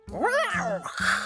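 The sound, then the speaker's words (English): A cat with its hackles raised lets out a tense, wavering yowl, followed by a brief breathy hiss. No one speaks. “The cat's hackles go up.”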